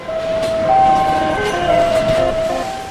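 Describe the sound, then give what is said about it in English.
Steady industrial din of the automated NUMMI car plant floor in Fremont, California, with a continuous mechanical rumble and several sustained, overlapping electronic tones from the automated gear humming at a mid pitch throughout; no voices. “A modern car plant, by the way, sounds a lot like a casino.”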